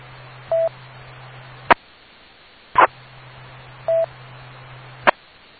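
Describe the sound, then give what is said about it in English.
Brief telephone dialing tones sound twice on a hissy radio line, each followed by sharp clicks and a steady low hum that cuts in and out, with no one talking. “Stand by, I got a phone call.”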